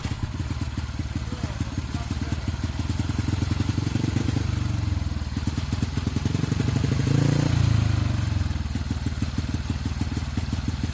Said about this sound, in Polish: to taki pierwszy warkot motocykla żużlowego na stadionie Smoczyka?